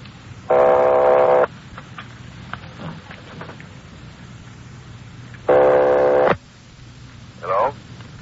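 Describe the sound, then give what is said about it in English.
A telephone ringback tone sounds twice over a hissy phone line as an operator rings a number in Napa, each buzzy ring lasting about a second with a long pause between them, followed by a brief warbling chirp. “They're ringing the number, Sergeant.”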